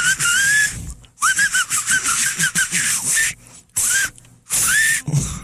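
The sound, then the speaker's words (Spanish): Loud, shrill electronic whistling tones from a battery-powered whistling keychain, sliding and warbling in short repeated bursts separated by brief pauses, harsh, with no talking. “Con su llavero chiflador, usted puede relajarse haciendo, mientras otros escuchan una bella sinfonía de viento.”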